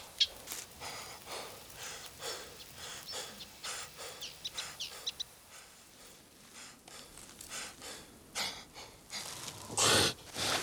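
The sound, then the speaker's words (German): A bird moving in the branches of a tree chirps and sings, a steady series of short, bright calls repeating over several seconds, fairly soft, with no one talking. “Ein Vogel bewegt sich im Geäst eines Baumes. Er zwitschert. Er singt.”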